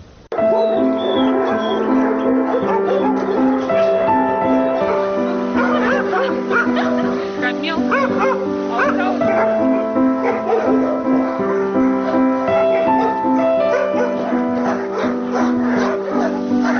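Several dogs at an animal shelter bark, yip and whimper at once in a loud, continuous chorus, with high whining tones overlapping steady barking throughout.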